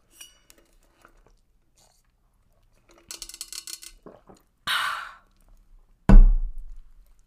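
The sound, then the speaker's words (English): Someone takes a drink of water: a quick flurry of small clinks and rattles, a brief gulping rush, then a solid knock as the container is set down. No one talks. “So sorry, I need to take a drink of water.”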